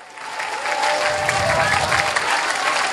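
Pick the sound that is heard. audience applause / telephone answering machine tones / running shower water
audience applause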